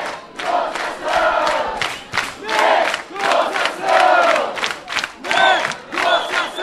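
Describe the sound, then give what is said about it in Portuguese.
A loud crowd of students protesting over a bus fare increase in São Paulo, gathered in the middle of the city council plenary chamber with some councillors and surrounded by police, shouts in unison, their chant rising and falling in steady rhythmic bursts about once a second, with a constant roar of voices beneath. “Nesse momento, o tumulto continua, os estudantes estão no meio do plenário, reunidos com alguns vereadores, cercados pela polícia, protestando para marcar uma data para a próxima negociação sobre o aumento na tarifa de ônibus em São Paulo.”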